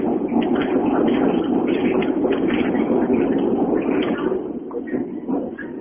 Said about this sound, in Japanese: 線路が重なってるところ通るとね、やっぱりね、どうしてもうるさくなっちゃいますね。